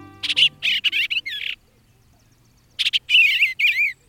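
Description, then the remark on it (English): A bluebird sings two bursts of soft, warbling notes separated by a short pause, clear, with no voices present. “Robert Otto, who's 90, loves bluebirds.”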